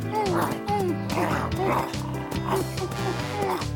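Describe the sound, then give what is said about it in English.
A very large dog barks playfully in quick, high yips like a puppy, repeating every half second or so, loud over a busy musical background. “He's acting like a puppy again.”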